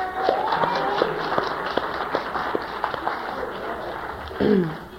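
A room of people applauds steadily for about five seconds, a dense wash of overlapping claps with a few sharper ones standing out, and a brief voice calling out near the end.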